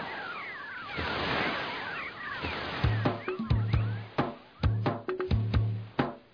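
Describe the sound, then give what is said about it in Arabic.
A steady wash of sea waves, where a river meets the sea beside a waterfall, fills the opening seconds, with faint bird-like chirps, before plucked music with sharp percussive hits enters and rises over the surf. “ماء الشلال، ذرات الماء تتطاير في الهواء، وهناك يلتقي ماء النهر بماء البحر، وأنا أجلس على هذه الصخرة المرتفعة أتأمل جمال الماء في البحر والنهر والشلال.”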